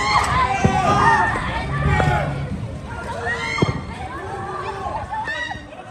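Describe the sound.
Families in Gaza shouting and calling out over one another in panic as they rush out of their homes and throw belongings from balconies after being told to evacuate before an airstrike; loud, raised, urgent voices overlapping in a continuous agitated babble.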